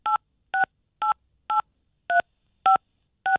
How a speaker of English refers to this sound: Oh, I don't know what's happening. I think she's cheek dialing the phone.